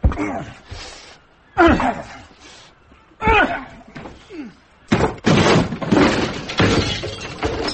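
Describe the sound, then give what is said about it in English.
Heavy blows strike a locked door several times at steady intervals, loud, before a long splintering crash as it is broken in. “Door's locked, sir. Break in.”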